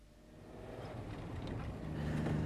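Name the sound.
car engine running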